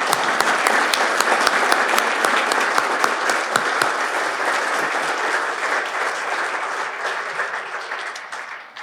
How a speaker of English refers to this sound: Obviously, being promoted is a big deal in your career, so give another round of applause to our promoted.